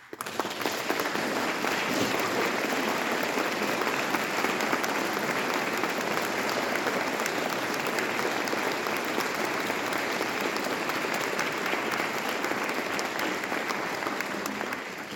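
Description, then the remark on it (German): Sustained audience applause after a concert at a Protestant church parish, for everyone who helped make the concert happen: a dense, steady wash of many hands clapping at an even loudness for about fifteen seconds, with no speech over it. “Vielen Dank alle, die am Gelingen dieses Konzertes mit beigetragen haben und denen ist auch ein großer Applaus wert.”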